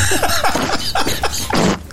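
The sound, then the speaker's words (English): A comedic fart sound effect: a rapid string of raspy, sputtering bursts over a low buzz, loud and rough, ending in a longer breathy blast. “Oh no, I played the fart noise from Queen for Fart.”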